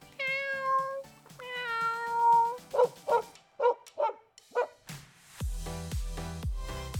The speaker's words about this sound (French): Miaou. Miaou.